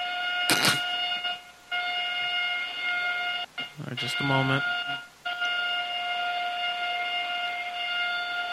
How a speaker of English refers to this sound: Here's that one. Okay, I'm ready. All right, you're at the lunk alarm. I just need you to, press.